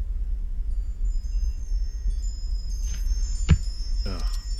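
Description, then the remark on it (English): Wind chimes tinkle with thin, high, sustained metallic ringing over a low rumble, broken by one sharp knock and a brief murmur of voice near the end. “I didn't hear the wind chimes before.”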